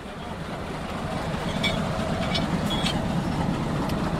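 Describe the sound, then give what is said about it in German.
A small narrow-gauge train rolls slowly and steadily into a station, its low mechanical drone continuous with faint metallic squeaks and clanks rising over the engine noise. “Während seine Banitis, sein kleines Bähnchen, langsam in den Bahnhof rollt”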